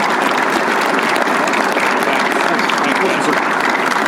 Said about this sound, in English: So again, whether you agree or disagree, let's just give him a big round of applause. Thank you.